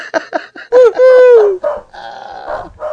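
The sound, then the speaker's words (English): A dog lets out a few quick barks, then a long drawn-out howling yowl, followed by more rough barking vocalizations, loud and with no talking. “Even my dog liked that.”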